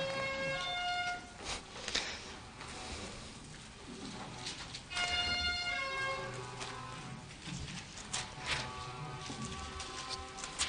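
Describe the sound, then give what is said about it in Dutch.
Car horns honk outside in several sustained, overlapping blasts, coming in bursts at the start, middle and near the end, with a busy rumble of background noise in between. “Ik hoop dat de toeters en de bellen zijn voor het juichen voor Jezus is Heer, maar dat zal denk ik wel niet.”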